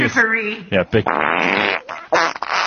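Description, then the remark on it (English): A voice imitates a fart with a mouth fart noise: a few short buzzy sputters, then one long, loud wet raspberry that trails off into a final flappy burst. “Big vegetarian buffalo farts coming out there.”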